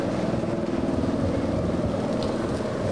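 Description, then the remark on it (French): A helicopter following a bicycle race on avenue de Jasseron hovers right overhead, its loud, steady engine roar and rhythmic rotor thrum filling the whole stretch, with gusty wind noise buffeting the microphone. “Ça y est, l'hélicoptère est vraiment juste au-dessus de nous, donc il faut forcer un petit peu.”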